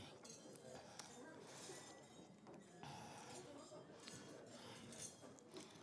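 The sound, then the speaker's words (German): Glasses clink together in a toast, several light bright chinks scattered over a few seconds amid a busy background of clatter and low murmuring voices. “Sie klingeln sehr schön.”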